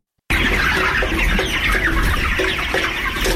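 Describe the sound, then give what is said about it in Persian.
Many chickens cluck continuously over a steady low rumble, with short repeated clucks popping out of a dense flock murmur, at a poultry farm in Parwan province, Afghanistan. “فارمداران میگویند که بر اثر افزایش مشکلات اقتصادی در این ولایت، فعالیت شمار زیاد از فارم‌های پرورش مرغ متوقف شده و ده‌ها کارگر این فارم‌ها بیکار شدند.”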